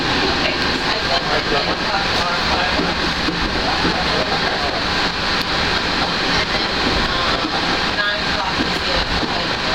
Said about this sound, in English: We're coming in towards the Magic Kingdom Transportation train station.